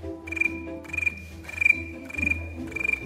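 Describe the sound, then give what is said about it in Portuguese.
A voice mimics a cricket's chirping with five quick, rhythmic bursts of trilling, each a short pulsing chirp, clear with no other sounds around it. “O grilo como que é?”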